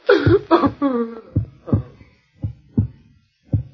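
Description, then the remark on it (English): Deep, muffled, heavy heartbeat thumps in lub-dub pairs, spacing out and weakening until the last beat, with a brief tonal groan mixed in at the start. “Listen to the heart beat its last beat.”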